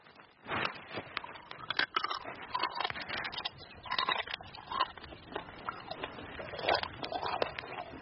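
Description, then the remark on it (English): Steady, moist crunching and chewing as a person eats a rhinoceros beetle, with irregular crackly bursts of its hard shell being bitten and ground between teeth, continuous for several seconds with no talking. “Oh, very crunchy, very gooey, and very bad tasting.”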